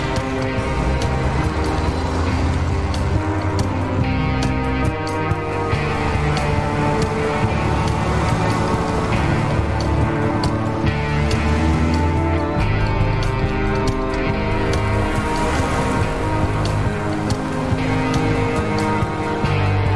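An old, beat-up, rattly car engine runs steadily and loudly as the car drives, its rough droning hum holding throughout with slight rises and dips, and no voices are heard.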